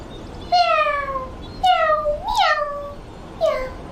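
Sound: cat meowing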